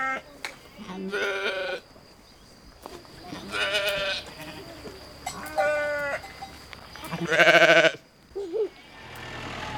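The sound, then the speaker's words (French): Sheep (ewes) in a sheepfold bleat repeatedly, four loud, wavering calls spaced a second or two apart, with a few shorter bleats and a steady low rumble in the background. “C'est la bergerie. La bergerie. C'est les plaines. Les brebis des raies.”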